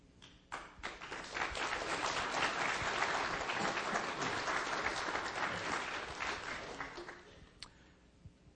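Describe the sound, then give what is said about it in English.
A standing audience applauds with dense, steady clapping that swells quickly after a few scattered first claps, holds loud for several seconds, then thins out toward the end. “So as you just stood, And as you clapped, together we give God the glory for what He has done.”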